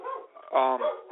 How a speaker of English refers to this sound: My dog is going crazy here. I'm sure you guys can hear her in the background. Quiet.